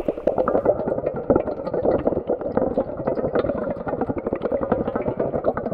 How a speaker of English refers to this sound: We recorded the sounds of bubbles blown through a straw in cold and hot water and panned between channels in editing. This is their sound.